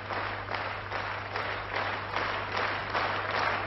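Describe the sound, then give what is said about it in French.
Sustained applause from the orchestra of the Bolshoi Theatre for a variety singer, dense overlapping claps forming a steady wash of noise with gentle swells in intensity throughout, no voices standing out. “C'est très rare qu'un orchestre comme celui du Théâtre Bolchoï applaudisse une artiste de variété.”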